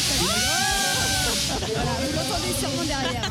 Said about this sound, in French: Voilà, vous l'entendez sûrement derrière, hein, le gros canon à confetti des Brandons. C'est toujours un moment assez drôle.